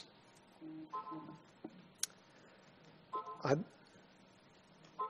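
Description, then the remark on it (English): Short electronic tones from a pastor's mobile phone chime in a few separate bursts during a sermon, with steady pitched beeps and a rising sweep, faintly heard with muffled speech in the background. “I thought I muted this. It's my fear as a pastor that I forget to mute my phone.”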